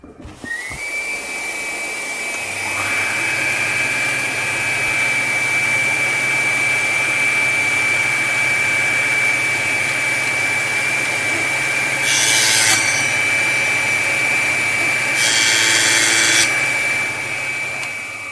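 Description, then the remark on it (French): A power tool spins up to a steady high whine over the low droning hum of a connected vacuum, with two harsh grinding bursts as the machine bites into a cow femur, loud, no talking. “Donc un fémur de bof, une machine. C'est ça. Un aspirateur. Ah, l'aspirateur est relié.”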